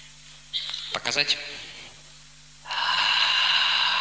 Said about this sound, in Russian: Дыхание. Выдох длиннее вдоха.